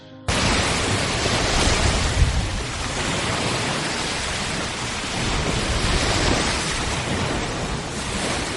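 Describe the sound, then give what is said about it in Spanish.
Steady roar of ocean surf breaking, a dense continuous wash of noise with gentle swells in intensity, no voices present. “Un día, viendo el amanecer con el silencio que te da la montaña, otro viendo terminar la jornada con el sonido de las olas.”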